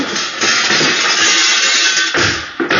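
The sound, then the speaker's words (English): A chair thrown through the glass panel in the door of a cashier's office, a loud burst of shattering and smashing that keeps clattering for a few seconds with no voices. “We can smash the glass panel in the door of the cashier's office and get them that way.”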